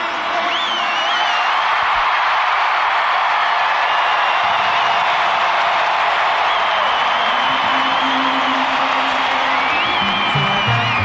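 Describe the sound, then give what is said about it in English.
A stadium crowd at the Metrodome applauds and cheers the Twins baseball team in a loud, unbroken roar, with shrill whistles rising above the noise now and then. “Another round of applause for this entire Twins team.”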